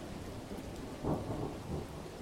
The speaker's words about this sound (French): Pendant tout ce temps, dehors, il pleuvait à verse et l'orage grondait.